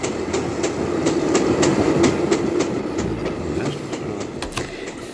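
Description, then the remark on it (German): A train travelling from San Francisco across the American continent rolls steadily along the tracks, its wheels producing a regular clickety-clack over a constant low rumble, fairly loud, with no voices. “Von dort aus ging es weiter mit dem Zug quer durch den amerikanischen Kontinent.”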